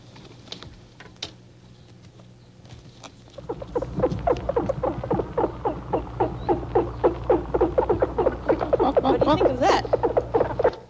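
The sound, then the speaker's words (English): Dolphins chattering while playing, in a rapid, dense run of clicks and squeaky pulses that starts after a quiet few seconds and stays loud and busy to the end, with no talking. “those are the sounds that they make when they're playing, and they jump up out of the water”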